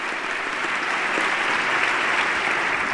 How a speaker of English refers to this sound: And everyone is applauding the First Lady, who stands to acknowledge the applause and takes her seat.